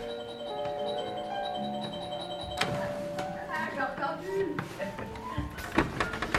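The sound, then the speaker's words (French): A doorbell at a door is rung several times, its sustained chiming tones followed by sharp clicks and knocks, with faint voices in the background. “Allez-y, sonnez plusieurs fois très fort.”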